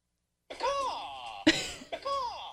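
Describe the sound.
A man vocally imitates a chicken, giving two drawn-out, strained squawks with a falling pitch, split by a short, harsh, cough-like burst in the middle.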